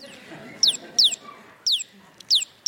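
bird clucking

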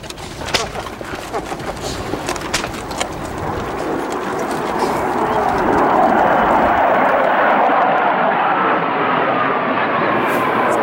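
military aircraft flying overhead

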